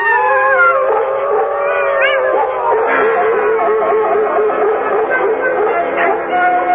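Several wolves howl together in a sustained, overlapping chorus, their long rising and falling wails layered loudly for several seconds with a few higher yips mixed in.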